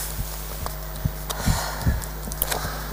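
A woman gives a few short, muffled coughs at uneven intervals, fairly quiet and close, with no talking around them.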